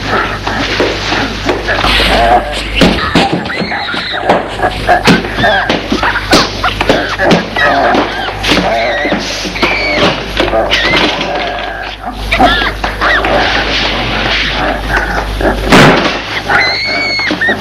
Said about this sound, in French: S'aperçoit que ces bruits, cris, sortent de derrière la porte condamnée. Et à chaque fois qu'il y a un coup dans la porte, ça la fait vibrer.